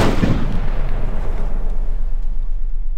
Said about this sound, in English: One of the fascinating parts of this to me was the fact that these heavy guns or cannons on ships weren't always used for firing at other ships. They were used as cries for help. Before flare guns, they just used cannons.